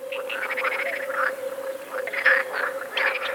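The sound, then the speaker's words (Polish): Edible water frogs croaking in repeated rattling bursts, several calls overlapping over a steady background hum, with no voices. “I jeszcze, żaba wodna, miękkie, okrągłe, łak.”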